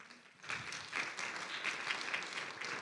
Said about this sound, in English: Can we just pause for a moment? If that describes where you have been, can we just clap for a second and thank Jesus?